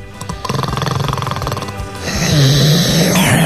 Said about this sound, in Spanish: Para ser bella tiene un ronquido bastante horrible.